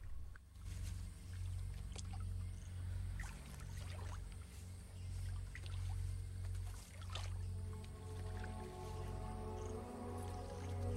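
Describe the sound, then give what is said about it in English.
Slow, irregular sloshing and soft splashes of a man walking slowly and cautiously into still, dark water with a line over his shoulder, with drips between steps, set over a steady low rumble. No one speaks. “He walks slowly and cautiously into the still dark water.”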